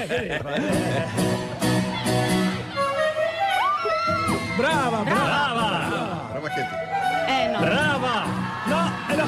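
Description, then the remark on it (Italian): An audience applauds and cheers loudly for about nine seconds for a singer at a 2011 performance, with scattered whoops and shouting voices rising and falling over a steady musical tone as the flute keeps playing on its own while she takes the applause. “Peccato che a un certo punto il flauto continuò da sola mentre lei si prendeva gli applausi.”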